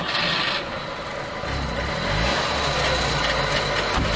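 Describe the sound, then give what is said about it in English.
A Trabant microcar engine, on a Trabi Safari sightseeing tour in Berlin, runs steadily with a raspy, buzzing rattle over a low droning hum that grows fuller after the first second or so. No one speaks. “Johannes Drexler is a tour guide for Trabi Safari, a company in Berlin that allows people to see the city's sights from the vantage point of the little microcar.”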